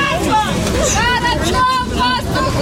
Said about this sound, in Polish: Kiedy na jedno z osiedli w Czernichowie podjechał autobus, w którym było kilkudziesięciu żołnierzy zwolnionych z rosyjskiej niewoli, rozległy się radosne krzyki bliskich i imiona wracających do domu.